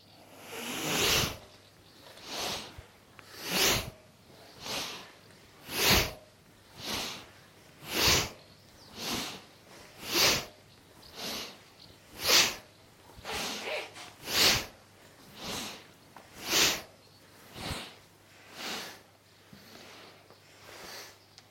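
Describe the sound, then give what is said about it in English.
Rhythmic, forceful breaths pushed through the nose during a breathing exercise, roughly one per second, about twenty in a row. Each is a sharp, airy huff, with no talking. “Moving with the breathing that you can hear.”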